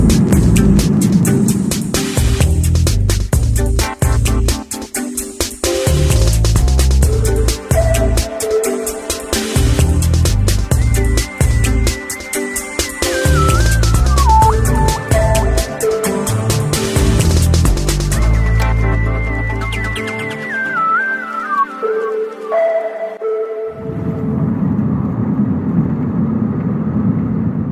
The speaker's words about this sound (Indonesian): Sampai catatan ini kutulis, aku sekarang berada di dalam bis yang melaju dan beruntung sekali.